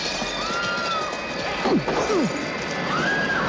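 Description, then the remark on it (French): The shop windows of the Soleil Vert store smash as an angry crowd pushes helmeted police through them, amid a loud, continuous chaotic din, with a burst of crashing near the middle and a few swooping, whistling tones sliding down and up in pitch. “Des policiers casqués sont poussés à travers les vitrines du magasin.”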